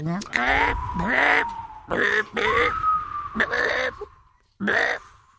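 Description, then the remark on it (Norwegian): A person on a Radio Rock show imitates seagull cries with a series of about six loud, harsh, nasal squawking calls, delivered in quick bursts with short pauses between them. “kan du lage måke, kan du lage måke og sjølyd?”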